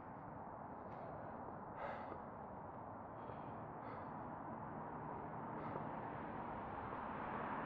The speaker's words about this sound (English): I'm supposed to be constantly talking. But, I have to breathe. Breathing is important.